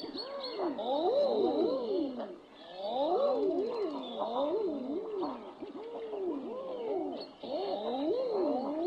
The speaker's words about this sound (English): This is the mating call of the male common eider. A large duck that makes its home in and around the coastlines of the North Atlantic and Pacific Oceans. And for my money, one of the oddest sounds in nature.